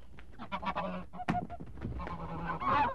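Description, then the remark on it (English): A big goose, caught and made to swallow a stone, honks repeatedly and loudly, its harsh calls tumbling over one another amid bursts of flapping and scuffling as it struggles, with no voices present. “I caught a big fine bird, and, well, after a bit of trouble, I got it to swallow the stone, all right. But it flapped and struggled like anything.”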